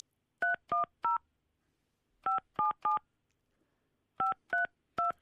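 Touch-tone telephone keypad beeps, nine clear dual-tone presses in three quick groups of three separated by short pauses, fairly loud with no talking, as Radio City in Liverpool dials a call to Roseanne Barr, followed by an American ringtone.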